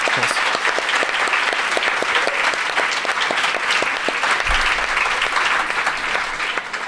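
audience applauding

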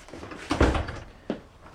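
door being closed

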